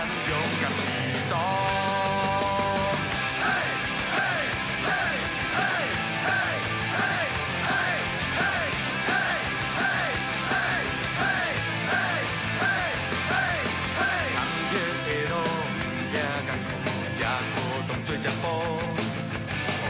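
A Taiwanese-language song in a chorus arrangement plays loud and continuous, with several voices singing together over a driving, steady beat and full band accompaniment.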